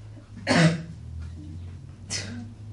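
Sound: sneeze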